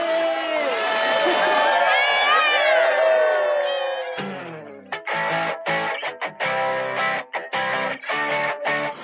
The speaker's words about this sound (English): And with more than 200 people there to cheer her on, Nutella has made her way back home into the Atlantic Ocean.